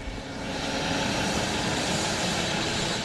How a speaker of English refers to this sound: Phil has gone to the chopper. He's going to start it up.